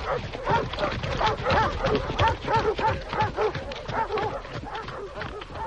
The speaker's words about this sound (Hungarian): Urak, futnak a kutyák, indulnak a hajtók. Rajta hát ti is, vágtassatok elő.